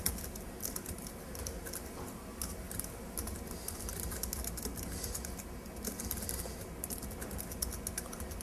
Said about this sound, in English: Oh, I'll just type it in.